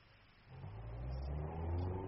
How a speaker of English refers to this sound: They gone now? Yes. I heard their cars. Jaguars, Bentleys, Mercedes-Benz, like that. Good cars, I told you, didn't I?